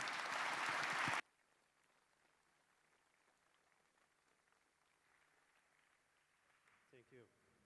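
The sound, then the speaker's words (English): A burst of loud audience applause welcoming two speakers to a talk at the Congress lasts about a second, then cuts off abruptly to near silence, followed by a faint brief voice near the end. “A big round of applause to them.”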